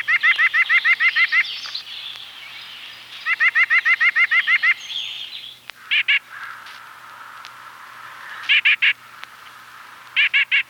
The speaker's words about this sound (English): The white-breasted nuthatch's call is louder and deeper than the red's.